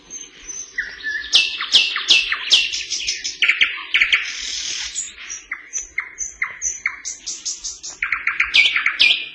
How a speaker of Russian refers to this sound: Вы слышите сейчас соловья-красношейку. Сибирская красношейка, эту птичку называют еще и так.